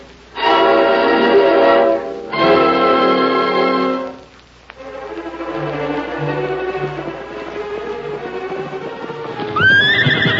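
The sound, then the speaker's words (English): A horse, Silver, gives two long, loud neighs, then hooves gallop in a quick steady rhythm as Tonto rides fast back from town, ending with another sharp whinny over the hoofbeats. No one speaks. “Yeah, Silver. I recognize it, too. That's Tonto coming back from town. He's traveling fast.”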